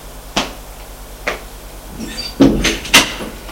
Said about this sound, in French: On frappe à la porte et on peut entrer.